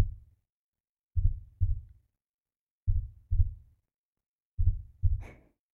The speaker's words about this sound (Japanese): ほら、だんだん鼓動が落ち着いてきた。